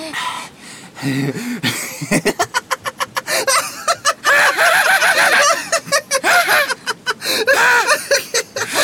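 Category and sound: vocal imitation, imitated crow cawing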